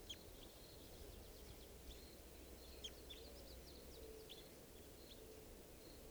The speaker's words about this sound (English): Just recorded that bird. She'll be JGG459. Red Crossbill 557.